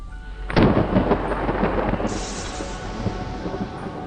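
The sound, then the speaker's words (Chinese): A sudden, loud crack of thunder from a heavy lightning strike that lights up a dark house, followed by several seconds of heavy rolling rumble with a steady rain-like hiss underneath. “闪电重重砸了下来，照亮了黑屋。”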